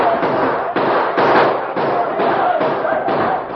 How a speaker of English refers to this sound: For half an hour, they blazed away into the night. They reloaded and fired again and again, surrounding the post with a wall of hot lead.